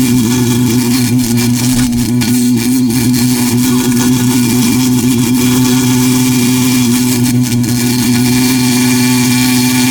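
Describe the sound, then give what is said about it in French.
A voice imitates a bee pollinating, with a loud, steady, low droning buzz, held without a break for about ten seconds, with no talking. “Comme une abeille qui pollinise le pollen.”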